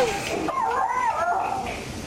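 A dog lets out high, wavering yelps and whines that rise and fall for a couple of seconds, fairly close and loud, with no talking over it.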